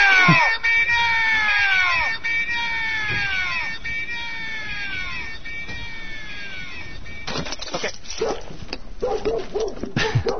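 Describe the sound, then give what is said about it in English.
A group of dogs barks and yelps loudly, a string of sharp, repeated cries that turns into a faster, more frantic burst of barking toward the end. “Set off the dogs.”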